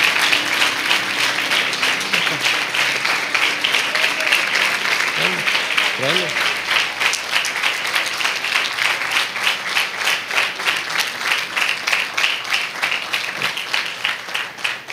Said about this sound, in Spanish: Los hijos, por favor, demos un aplauso, pero de pie.